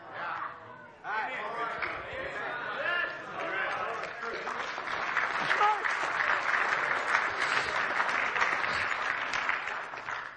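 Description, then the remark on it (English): An audience claps steadily, a dense wash of many hands that swells louder about halfway through and keeps going, with a voice and crowd murmur mixed in near the start. “A clap good enough.”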